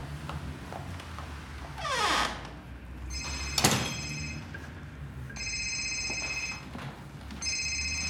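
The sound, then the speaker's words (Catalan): A mobile phone rings with a call from a Barcelona taxi company, in repeated electronic tone bursts, loud, with rustling, a swishing movement and a brief clatter in between amid steady room noise, as a wallet is put in a trouser pocket and the phone picked up. No one speaks. “En Merlí es desa la cartera a la butxaca dels pantalons i agafa el mòbil.”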